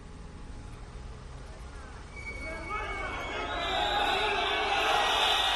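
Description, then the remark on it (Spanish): A protest crowd of Policía Foral officers chants in unison outside the Parliament of Navarra, shouting "presidenta en dimisión"; the massed voices start low over a rumbling background and swell louder and denser through the second half. “ese era ese sonido de esa concentración de hoy, como han podido escuchar, han gritado presidenta en dimisión, han cambiado un poco la dinámica de las concentraciones porque llevan ya un mes concentrándose cada jueves”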